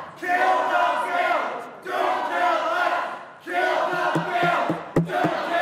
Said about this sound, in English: As Senate Majority Leader Mitch McConnell asked for the vote on the motion to proceed to begin debate on the GOP health care plan, protesters in the Senate gallery started yelling.